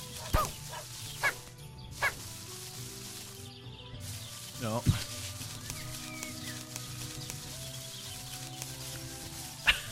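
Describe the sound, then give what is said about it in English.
A dog barks in short, sharp yelps, about five scattered across the stretch at irregular gaps, over a steady, droning musical background with no talking. “I'm still laughing over the dog.”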